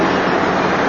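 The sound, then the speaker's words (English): A steady, continuous rush of water, like liquid being poured without pause, fairly loud, with no talking. “He keeps pouring in, right?”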